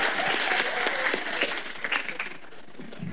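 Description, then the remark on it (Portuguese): An audience breaks into sustained applause, a dense patter of many hands clapping at steady volume that eases slightly toward the end, with faint crowd voices mixed in. “Gente, ó, salve de palmas pra vocês.”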